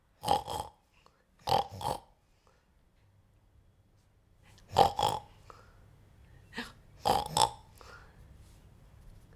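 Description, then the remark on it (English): Someone imitates a pig, making four pairs of short, nasal, grunting oinks, each pair separated by brief pauses, as a real piggy like Piglet would go. “I don't think I'm quite right here, but if Piglet was a real piggy, it would go oink oink, oink oink, oink oink, oink oink.”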